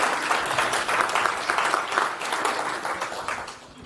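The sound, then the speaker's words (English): A conference audience applauds steadily for about four seconds to welcome a speaker's talk, a dense, even patter of many hands clapping that tapers off slightly toward the end. “So everyone, if we could have a round of applause, please,”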